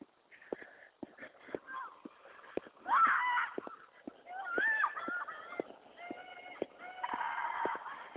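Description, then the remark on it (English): Children shriek and call out in overlapping high-pitched bursts on a playground, with sharp thumps and taps scattered throughout and a loud cluster of squeals in the middle. “Kids on the playground. I'm pretty sure you can hear them. The loud shrieking noises.”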